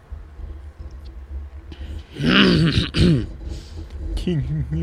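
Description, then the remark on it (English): A man clears his throat twice, a rough, gravelly rasp in two bursts, over a low steady hum with a brief voiced sound at the end. “It's just clearing my throat.”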